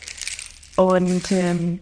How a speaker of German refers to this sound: Diese hier heißen Pala Chimes. Die gibt's auch mit unterschiedlichen Samenarten. Die hören sich dann ein bisschen unterschiedlich an, ja. Aber auch sehr, sehr schön und auch sehr, sehr entspannend und beruhigend, finde ich, dieser Sound.